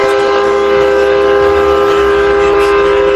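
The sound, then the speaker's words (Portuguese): A loud, sustained train horn blares steadily for the whole stretch, its bright harmonic tones held over the low rumble and rhythmic clatter of a moving train with 200 wagons. “Tem nem volante isso aqui, moço. É só acelerar, frear e buzinar, ó.”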